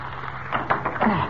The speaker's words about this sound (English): Yeah, but there's a big padlock on it. Uh-huh. The padlock looks rusty. Maybe I can snap it.